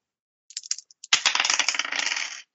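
Dice rolling on a table for a psychology roll in a game: a few light clicks, then a busy clatter of dice tumbling and rattling for just over a second before stopping. No one speaks.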